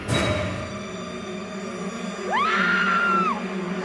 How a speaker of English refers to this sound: Don't scream so loud, you're hurting my ears.